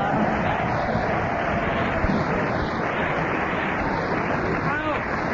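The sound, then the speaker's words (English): A studio audience claps in a dense, steady wash of applause that holds at an even, fairly loud level for about five seconds without building or fading. “Everybody applauded because you all know it's on at 10 o'clock, so you must listen to it.”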